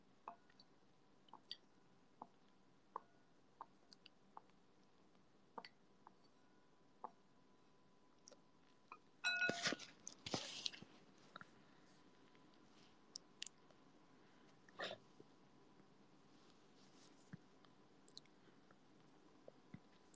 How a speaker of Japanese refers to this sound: ちゃんと聞こえてた？すする音。